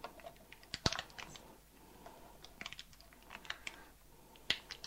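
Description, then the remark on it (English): Foil being peeled off a tiny pot of fresh beef stock: a series of irregular crinkly crackles and sharp ticks, one louder snap early on, fairly quiet overall with no talking. “All I'm going to do is take off the foil.”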